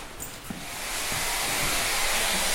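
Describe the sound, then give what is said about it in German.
Spraying from a small spray bottle onto all the shower room walls and the toilets: a soft hiss builds after a faint start, then holds as a steady, broad, airy rush to the end, with no voices. “hält eine kleine Sprühflasche in der Hand und spritzt damit alle Wände im Duschraum und die Toiletten ab.”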